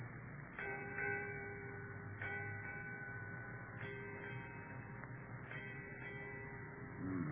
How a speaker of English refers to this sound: Eight bells, Captain. Aye. Eight bells, mate.